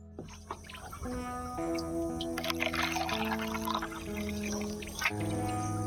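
Drinking water pours steadily into a glass for several seconds, a continuous splashing stream whose ringing tone climbs as the vessel fills. No voices.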